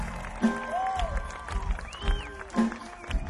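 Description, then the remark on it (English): A festival audience applauds the band of Big Easy Award winners in a steady, dense wash of clapping, with whistles gliding up and down over it and a few sustained musical tones ringing underneath. “Ladies and gentlemen, give the professionals a big round of applause for me, please.”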